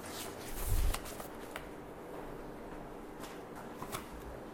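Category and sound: household object, paper pages being shuffled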